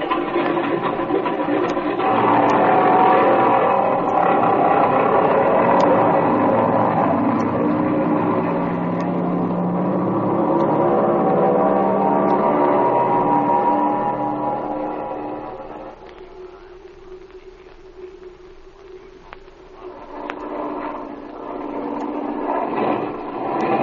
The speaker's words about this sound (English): This engine's missing, Speed. The tachometer keeps jumping back and forth. Yeah, I hear it, Jim, and I can't understand it. What do you suppose is the trouble, Flash? Darned if I know. It might be almost anything. It's getting worse, Speed.